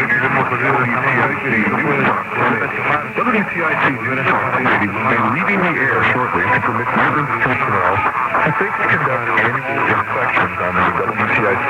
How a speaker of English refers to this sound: Here's what WTIC sounded like signing off at 1:34 a.m. Eastern Time, March 18th, with heavy interference from Radio Cadena Habana, Cuba, and WVCG Coral Gables, Florida.